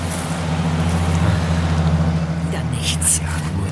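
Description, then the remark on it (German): A car engine rumbles with a steady low drone that swells slightly as the car approaches from the right and rolls past on a road by a beach, with some hissy high-pitched noise near the end. “Hey, von rechts kommt ein Auto.”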